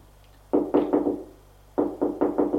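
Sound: knocking on a door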